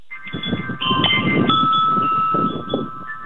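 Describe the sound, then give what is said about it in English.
Wind chimes ring outdoors by a pool, several sustained metallic tones overlapping and fading into one another over a steady rumble of wind noise, continuous for a few seconds with no voices. “The wind chimes out here by the pool are supposed to play Take Me Out to the Ball Game”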